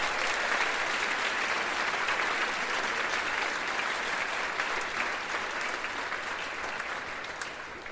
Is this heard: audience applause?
yes